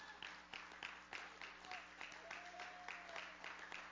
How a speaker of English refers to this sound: A hand clap of praise. Now, that was a hand clap. But can we give God a hand clap of praise?